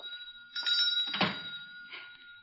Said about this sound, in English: The phone, Will?